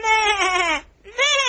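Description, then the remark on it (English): A voice imitates a sheep, letting out two loud, wavering bleats separated by a brief pause, with a quivering, nasal tone; the bleater is one of the sheep in a church Christmas play. “why do you sound like a sheep?”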